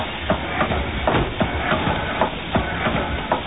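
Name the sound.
steam locomotive hissing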